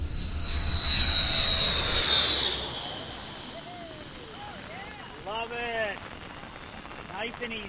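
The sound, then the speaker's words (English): A small airplane comes in to land on the Palmyra airstrip, made of coral rubble, during a Pacific storm. Its engine roar and high whine are loud at first, then ease off and fade, followed by a few short, warbling rising-and-falling calls. “A Pacific storm makes the Palmyra airstrip definitely dicey.”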